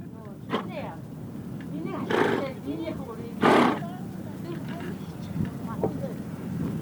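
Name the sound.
horse neighing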